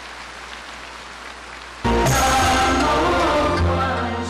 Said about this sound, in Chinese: 现在，让我们用最热烈的掌声，恭请尊敬的卢军宏台长。